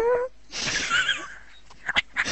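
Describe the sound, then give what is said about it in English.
A person briefly imitates a cat's meow with a short tonal vocal cry, then a raspy, breathy wheeze follows, ending with a few quick sharp breath bursts. “Meow. That was a bad cat.”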